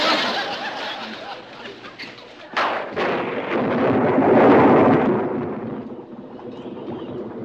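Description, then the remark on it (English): A loud thunderclap from a storm at its peak cracks suddenly. A deep rumble then swells and slowly rolls away, with steady noise like heavy rain or wind underneath throughout. “The storm is at its peak.”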